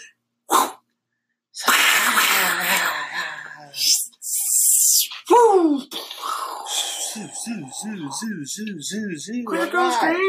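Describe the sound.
A voice imitates fireworks: a quick burst, then a long hissing whoosh, followed by whistling swoops and a fast run of bouncing, pitched whistles. Loud and energetic, with no ordinary speech.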